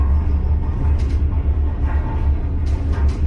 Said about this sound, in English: This is a cable car system with 11 different lines. It's the only reasonable way to get between the two cities. Landing here via cable car means you float over the steep valley from La Paz, and your first sight of El Alto is from above.